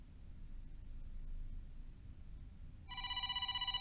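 A phone starts ringing near the end, a bright electronic trill with rapid pulsing, following a few seconds of low background hum with no talking; the call is to the Yamabiko Shoji company.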